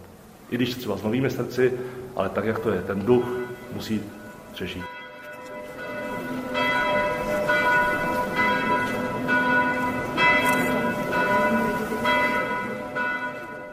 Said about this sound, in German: Ich hoffe, dass die Glocken im Veitsdom, die hier 450 Jahre lang zu hören waren, noch hunderte weitere Jahre läuten werden. Kann sein, dass sie zwischenzeitlich neue Klöppel bekommen, aber die Tradition, sie muss aufrechterhalten werden.